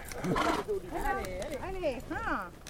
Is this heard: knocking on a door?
no